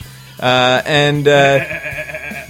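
A sheep or goat bleats in three quick, wavering cries that run together over about a second, loud and close, followed by a quieter low hum.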